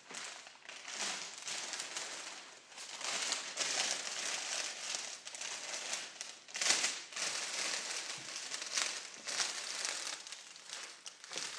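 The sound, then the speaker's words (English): Cellophane crinkles and rustles almost nonstop as it is gathered, a bright, crackly texture of many tiny snaps with a few sharper crunches, steady and fairly loud with no talking. “And then you pop that bang into the middle of the cellophane.”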